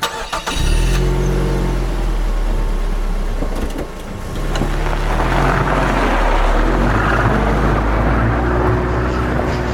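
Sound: car driving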